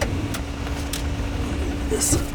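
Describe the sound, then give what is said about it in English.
A steady, continuous roar of a car driving at highway speed down the interstate toward the Willamette Valley, with low engine rumble and constant road noise that holds at an even level throughout. “So he hopped in the car with us, and we made our way down the interstate out to the valley.”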